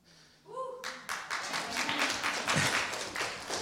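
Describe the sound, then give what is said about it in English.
A voice finishes reading a Bible genealogy passage and trails off, then a group bursts into applause: many overlapping claps forming a dense, steady patter that holds fairly loud for about three seconds. “I think that's the first time I've had anyone clap after reading this, the passage.”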